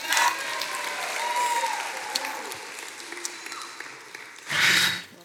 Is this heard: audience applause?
yes